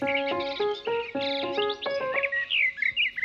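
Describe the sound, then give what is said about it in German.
Songbirds chirp and twitter in a garden shortly before ten o'clock, bright repeated notes overlapping in quick bursts, one bird clear with others chattering faintly. No one speaks. “Wir sitzen nämlich in deinem Garten und es ist jetzt kurz vor 10 und hier ist schon ganz schön viel Gezwitscher”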